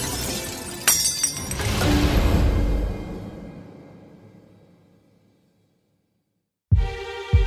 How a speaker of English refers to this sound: Rattle clink. He heard the jars sliding across the boards. Then, in the dark, he heard the sound of 1,000 breaking jars of glass.